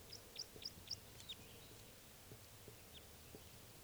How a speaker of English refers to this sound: Oh, and here comes another male in flight song.